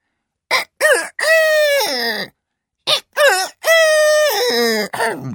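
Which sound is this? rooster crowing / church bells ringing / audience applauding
rooster crowing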